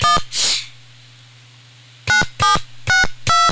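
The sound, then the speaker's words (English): Telephone ringing tone on an old-fashioned phone: a short buzzy tone, a brief noisy burst, then after a pause four evenly spaced electronic tone bursts over a low steady hum. No one speaks. “I think it is ringing.”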